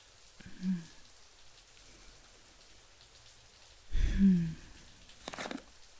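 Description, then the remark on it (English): Shower water runs in a steady, soft spraying hiss, broken by two brief, louder splashing bursts partway through, as if something moves under the stream. “if you're not gonna come out of the shower smelling incredible”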